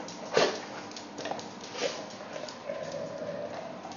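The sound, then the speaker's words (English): Two dogs, Noah and Mr. Cleaver, growl at each other in a few short rough bursts, then one drawn-out steady growl near the end; Mr. Cleaver's growl is lower. Fairly quiet, with no one talking. “But he's doing it too. They're growling at each other.”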